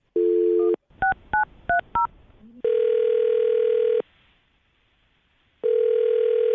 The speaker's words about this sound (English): All right, well, I'll dial her phone number right now, see if we can get her on the phone and get your second date update.